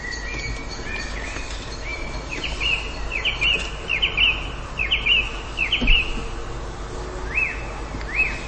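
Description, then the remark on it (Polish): Small birds chirp and sing in a steady series of bright, repeated high notes over a soft outdoor background hiss with no one speaking. “Te ptaszki.”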